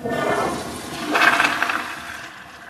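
A toilet in a building's bathroom, supplied with recycled water treated with UV and chlorine, flushes with a loud, rushing gush of water that swells midway, then tapers into a softer trickle and refill hiss.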